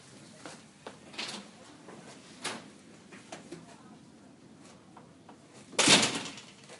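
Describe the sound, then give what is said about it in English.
A drawer where markers are kept is pulled open to get a marker, with a loud scraping clatter near the end. A few softer knocks and shuffles come before it over a quiet background. “Get me a marker. I keep them in the drawer that's like over here.”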